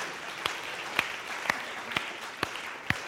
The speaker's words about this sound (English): Also, just a reminder that we have hired a new church administrator. She'll be starting this week. Let's clap, because that's so good.